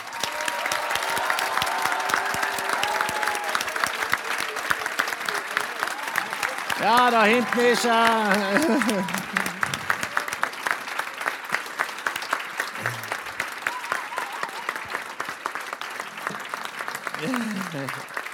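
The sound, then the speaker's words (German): Sustained, loud applause from a large audience at the end of an event, a dense steady clatter of many hands, with a few voices and cheers rising briefly above it. “Wir machen jetzt den Schlussapplaus so laut, dass er hört, egal wo er ist.”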